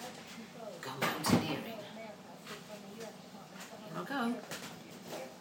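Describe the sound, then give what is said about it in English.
A chair is shifted over a bit across a hard floor, with one sharp scraping bump standing out among softer knocks and shuffles, while voices murmur quietly in the background. “I've got to move the chair.”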